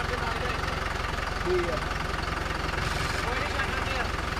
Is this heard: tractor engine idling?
yes